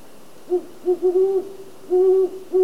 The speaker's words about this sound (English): That's a great horned owl.